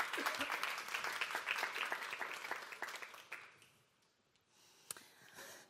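A burst of applause, many hands clapping in a dense, steady patter for about three seconds before fading away, with a lone sharp clap near the end.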